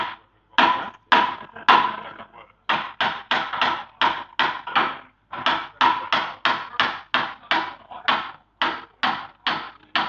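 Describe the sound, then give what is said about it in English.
Heavyweight combat robots being worked on and tested in the arena, about an hour and a half before the first show, heard as a long run of loud, sharp banging impacts, roughly two per second with a couple of brief pauses, each hit ringing out briefly. No one speaks. “Yes, the background noise is currently four being worked on. We've got people testing their heavyweights in the arena.”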